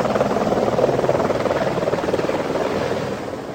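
A helicopter's rotor thumps in a steady, rapid chop with a loud engine whine, holding strong before easing slightly toward the end as it lifts off after its door closes.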